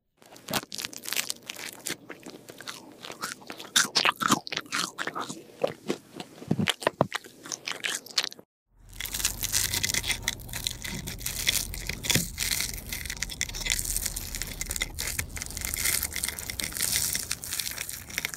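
Crunchy toast being bitten and chewed: sharp, irregular crackling bites for several seconds, a brief pause, then a denser continuous stretch of crisp munching and crumbling. No one speaks.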